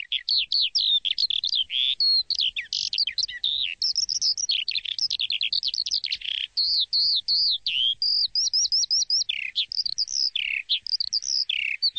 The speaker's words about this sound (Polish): Nie ma szans. O tej porze roku nasze skowronki są w Afryce, tak więc należałoby tam pojechać, żeby je usłyszeć. A tu na razie skowronek w wersji cyfrowej.